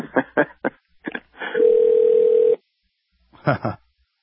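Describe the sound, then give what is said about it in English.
An outgoing call to the Kenyan embassy in Washington, D.C.: a single steady electronic ringback tone rings out over the phone line for about a second, loud and clear, with brief bits of talking just before it and a short voice after. “Let's hear the ringing on air, and then I'll talk to him.”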